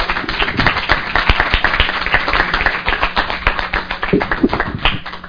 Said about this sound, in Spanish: Un aplauso a los panelistas.